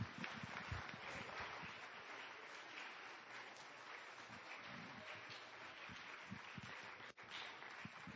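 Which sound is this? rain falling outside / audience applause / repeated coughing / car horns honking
audience applause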